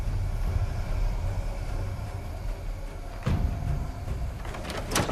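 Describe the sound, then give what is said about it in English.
A house's front door is opened by its knob over a steady low rumble: a dull clunk midway, then a sharper latch click near the end, with no voices. “He grabs the knob of the house's front door and pauses.”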